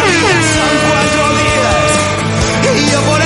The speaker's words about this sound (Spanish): Un saludo a todos y nos haremos fuertes para hacernos oír. Toca la bocina por los autónomos.